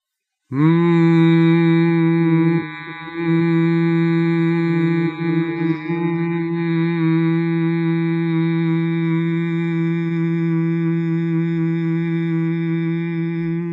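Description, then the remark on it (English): Voices hum together in a breathing exercise, the first of four hums after a deep breath: one long, steady, low-pitched drone that begins abruptly, briefly wavers and dips early on, then holds evenly for over ten seconds with no talking. “Now take another deep breath, and when we release on this one, we're going to sound forth the first of four hums.”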